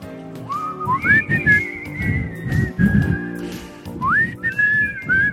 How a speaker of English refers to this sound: I heard you like to whistle. Why don't you whistle along with this song?